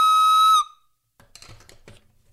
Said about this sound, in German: Doch plötzlich hörten sie von hinten ein Horn. Moment mal. Okay, mein Horn ist kaputt. Scheiße. Dann hörten sie halt ein anderes Horn.